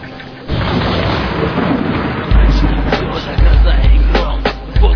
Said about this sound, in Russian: Дождь, словно из ведра, льет.